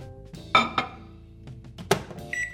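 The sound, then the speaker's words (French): A microwave oven, a small oven for reheating dishes, runs with a low background hum, punctuated by a few sharp glassy clinks and thunks, then a steady high electronic beep near the end. No one speaks. “Longueur d'onde, c'est un petit four que tu utilises pour réchauffer les plats.”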